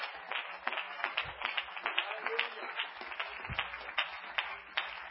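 A church audience claps their hands in praise, a steady crowd of sharp, overlapping claps keeping a loose, lively rhythm for several seconds, with a few louder claps standing out and a faint murmur underneath.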